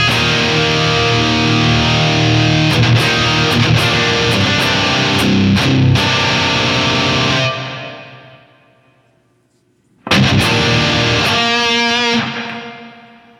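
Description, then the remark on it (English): A loud, distorted instrumental passage soaked in bright plate reverb, its long shimmering tail fading to near silence before a second burst rings out and washes away again. “Too much reverb. So let's go to plate.”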